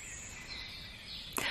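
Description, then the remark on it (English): A cricket's thin, high-pitched trill holds steady and fairly quiet throughout, then ends in a brief, brighter burst of sound. “Thank you, dear Cricket, that I can hear you right now.”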